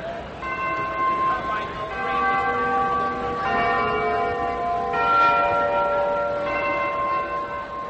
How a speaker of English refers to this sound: They stood in a drizzle of rain, surrounded by the 16th century buildings of Michelangelo, in the square at the top of Capitol Hill, waiting. Then there was a signal from the historic bells in the Capitoline Towers.